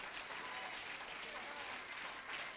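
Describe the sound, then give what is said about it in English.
A crowd claps steadily in a dense, continuous patter, with scattered shouts and voices mixed in, loud for a few seconds. “Now, I'll wait a minute for you to clap your hands and shout a little bit.”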